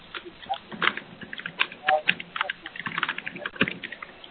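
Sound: computer keyboard typing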